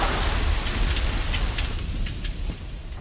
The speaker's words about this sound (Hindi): बारिश हो रही है। हाँ कितनी अच्छी बात है।